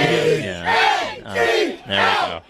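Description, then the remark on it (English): A crowd chants in unison, many voices rising in three loud, rhythmic swells of sustained, shouted syllables, each about a second long with brief dips between them. “They hear Elliot's on and the chants begin.”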